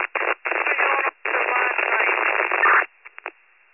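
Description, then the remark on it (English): Bursts of harsh radio static on a transmission from Chief 395, band-limited and crackly, come in several loud chunks with brief gaps, then a few short clicks and pops as it cuts out. “Chief 395 is all mostly static, that they weren't supposed to call 911 for this emergency.”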